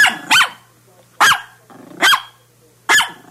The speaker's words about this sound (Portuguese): Esse gatinho ganhou um concorrente, rapaz. É o cachorrinho